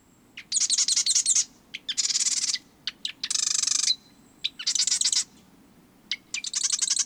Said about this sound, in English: Then, sitting high atop a perch in the marsh, he sings his sewing machine-like song, inviting a female to select a nest in his territory.